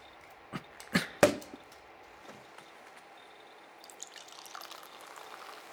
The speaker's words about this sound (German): Magst du die Flasche aufmachen? Ja, klar.